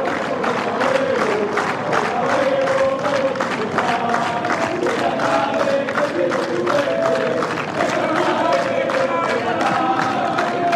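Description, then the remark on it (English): A large crowd of fans at a tennis match sings together in a loud, steady chant, many voices blending into one sustained, rhythmic song that carries on without pause, with scattered cheers mixed in. “I hope it's polite what they're singing.”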